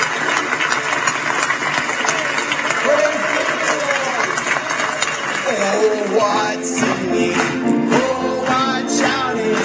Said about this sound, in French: Donnons-lui une bonne main d'applaudissement!